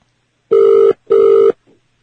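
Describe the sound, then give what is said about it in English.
Two steady electronic ringing tones, each about half a second long with a short gap between, like the ringback heard through a phone receiver while an outgoing call to the Four Seasons hotel front desk connects. No one speaks. “I guess the phone lines are still up, and the Internet supposedly is back on today.”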